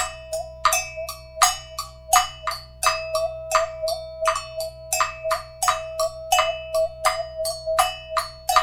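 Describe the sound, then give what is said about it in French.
A steady rhythmic pattern of sharp metallic bell strikes mixed with crisp wooden clicks from an agogo bell and Cuban claves being played together, clear with no voices. “Coutou à pas, cloche à gogo et les claves cubaines.”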